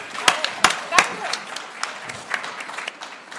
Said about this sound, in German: Ist doch okay. Und übergibst du das als Verlegerin? Ist doch, ja, ein Applaus.